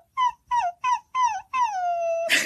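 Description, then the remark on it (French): A person's voice imitates a whimpering puppy as a singing technique for reaching high notes: four short, high, nasal whines in a quick row, then one longer whine that slides downward and ends with a breathy puff, clear. “Faire le petit chiot.”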